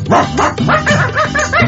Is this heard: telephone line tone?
no